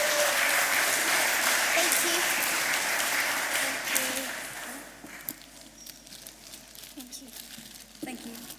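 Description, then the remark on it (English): A crowd breaks into sustained applause for children, loud and dense for about four seconds, then thinning into scattered claps as murmuring voices continue underneath. “I think they all deserve a clap.”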